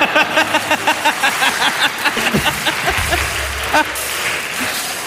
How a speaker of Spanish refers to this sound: Te dejamos un fuerte aplauso para mi causa.